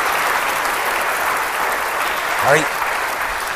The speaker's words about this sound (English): There he is. Give him a clap.